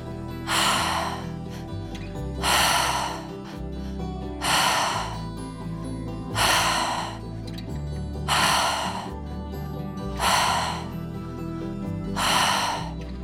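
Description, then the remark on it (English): Slow, deep breaths drawn in and let out at a steady, unhurried pace during a guided breathing meditation with eyes closed, about six audible breath cycles, over a soft, sustained musical drone. “Now bringing your hands down to your side, closing your eyes, breathing out, and starting with your breath.”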